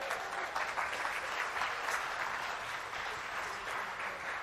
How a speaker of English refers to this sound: I'm not sure if that's a round of applause for them or the motorways, I can't tell.